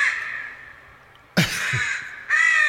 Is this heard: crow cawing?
yes